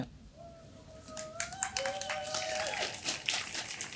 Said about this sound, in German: Das ist wirklich auch super schön mit euch als Live-Publikum. Bitte applaudiert.